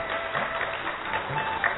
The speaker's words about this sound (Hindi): कृपया तालियों को जारी रखें.